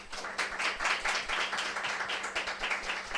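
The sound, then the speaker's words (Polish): An audience applauds steadily as election committee candidates are welcomed, a dense patter of many hands clapping at an even, moderate loudness with no voices over it. “Brawa.”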